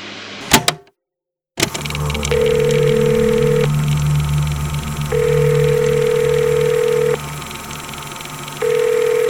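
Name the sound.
mobile phone ringing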